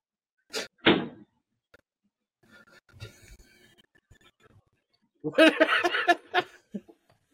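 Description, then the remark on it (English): A fridge door is slammed shut several times: two sharp bangs, a stretch of soft rattling and shuffling, then a louder cluster of thuds and clatter. “They slammed that fridge back shut.”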